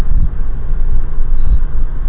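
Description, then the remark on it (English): A steady, loud low-pitched rumble of busy interstate highway traffic, a continuous road roar with no distinct individual vehicles standing out and no voices. “The traffic's kind of busy today on the interstate.”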